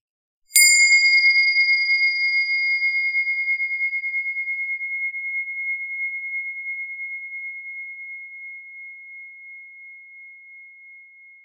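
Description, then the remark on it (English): A single meditation bell is struck once, its clear tone ringing out alone and slowly fading over about ten seconds, with higher overtones dying away first and a gentle wavering in the long decay. “As the sound of the bell dissolves, begin to imagine a beautiful healing environment, your sanctuary.”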